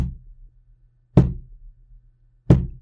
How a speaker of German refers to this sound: Und alles, was die Person macht, ist mit diesem Stock oder mit der Hand auf diesen Stuhl zu klopfen und mit einem ganz bestimmten Rhythmus. Immer nur.